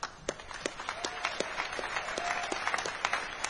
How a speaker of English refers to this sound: So the second place team, who we should give a big round of applause to, with... 595 points was School of Root,